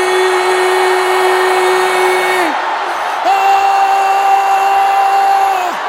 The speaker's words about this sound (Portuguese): Eu vou contar de 1 até 3 e você vai gritar. Gritar. 1, 2, 3, grite!